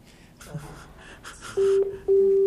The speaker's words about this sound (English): Is that the phone on speakerphone? Somebody's calling. Where's the telephone?